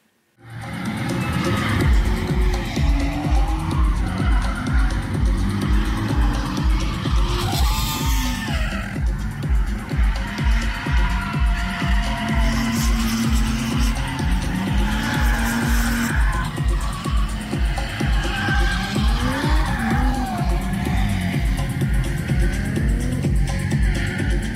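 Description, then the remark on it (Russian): Cars drift together in threes at a Lithuanian drift event at a kart track near Šiauliai, with sustained, wailing tire squeal and skidding over a steady roar of revving engines, loud and continuous throughout with shifting pitch as the cars slide. “Замечательная особенность литовского дрифта – удалые тройки.”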